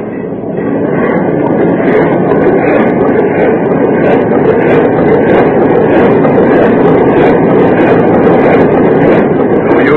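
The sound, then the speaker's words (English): A ship's hull grinds head-on into pack ice, a loud, continuous low rumble and scraping roar that stays steady for the whole stretch, with no voices. “Well, we struck that ice pack head on.”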